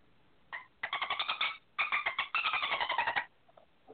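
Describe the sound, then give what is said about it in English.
A Skype caller on an on-air call-in imitates a dolphin with rapid, high-pitched squeaky chirps and clicks in three quick bursts, loud and alone, then a couple of faint trailing squeaks. “That's a dolphin.”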